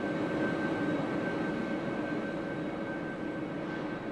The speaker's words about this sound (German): Wie tönt zum Beispiel der Bahnhof Bern ohne Menschengewusel aus allen Richtungen?